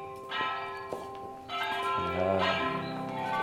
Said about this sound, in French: J'entends le bruit de la porte qui s'ouvre.